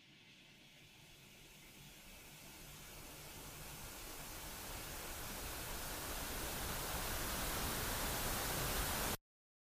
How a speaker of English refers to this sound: The interstellar soup of radio waves that play out as static on a television that seemingly has nothing else to broadcast.